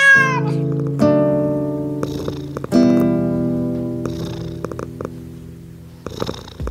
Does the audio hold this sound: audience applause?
no